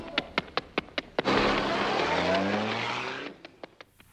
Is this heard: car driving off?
yes